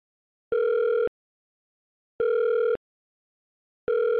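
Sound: telephone ringing tone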